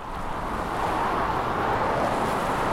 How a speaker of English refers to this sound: In the valley, you almost can't hear the Green River, even when you're standing right next to it. The trucks make too much noise as they weave their way between manufacturers and the warehouses and the port.